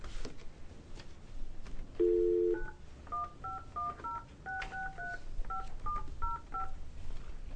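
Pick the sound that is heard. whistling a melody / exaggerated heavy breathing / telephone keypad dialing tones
telephone keypad dialing tones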